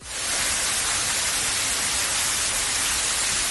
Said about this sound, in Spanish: Una cascada de agua saliendo del techo que ha provocado daños en las tuberías del edificio y que terminó la inundación del pasillo de la planta cero, donde se encuentran los vestuarios del personal.